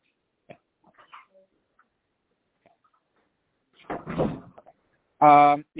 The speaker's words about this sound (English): Close the door, please. Would you? Thank you.